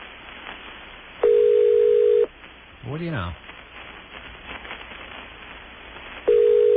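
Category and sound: signal or alarm, telephone ringing tone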